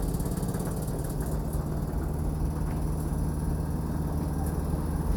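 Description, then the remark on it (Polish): A steady, loud mechanical whir with a deep hum drones on without a break from an air conditioner fan running at its highest speed, with the target temperature set to 18 degrees Celsius. No voices are heard. “Niech działa z najwyższą prędkością wentylatora.”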